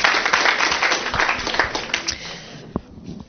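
A round of applause from an audience at a seminar for parents: a dense, steady crackle of many hands clapping that gradually thins and fades out over about three seconds, with no one speaking.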